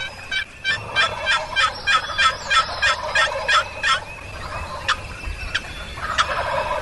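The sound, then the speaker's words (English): A roosted wild turkey gobbler on a glade along a ridgetop gobbles in a rapid, rattling burst of repeated notes, followed by a few sharper calls, outdoors with no talking, gobbling at crows, owls, other turkeys and a box call. “The roosted gobbler on the glade is now gobbling nonstop at the crows, owls, other turkeys, and the love call from Uncle Lee's trusty old box call.”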